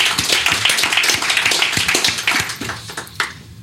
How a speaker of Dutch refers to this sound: Krijg je ook applaus. Ja, zeker.